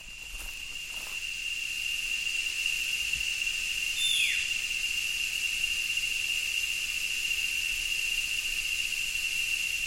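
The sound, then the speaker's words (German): Rainforest crickets and cicadas at dusk at a camp in the rainforest of Corcovado National Park, Costa Rica, keep up a steady, shrill drone with a piercing sustained tone over a dense high hiss, broken midway by one brief descending whistle; no one speaks. “In einem anderen Camp mit anderen Grillen und Zikaden.”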